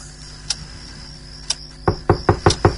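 A rapid series of five firm knocks on a bedroom door near the end, preceded by two single sharp taps, heard alone against a quiet background hiss.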